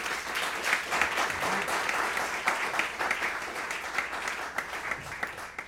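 Steady audience applause for a guitarist, many hands clapping in a dense, continuous patter that holds at a fairly even level for several seconds, with a few sharper claps standing out.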